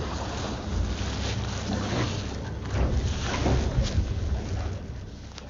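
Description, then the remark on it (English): A small boat on open water with a whale coming close to it: a steady low rumble with rushing wind and sloshing water noise, continuous, with no voices. “And it's now coming right very back close to the boat again.”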